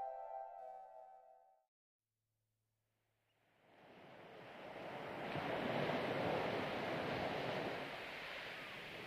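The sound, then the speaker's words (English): Ocean waves wash onto Balder Beach, a broad roaring surf that swells in after a brief pause and stays loud and steady, preceded by a short tonal note at the start. “Welcome to Balder Beach.”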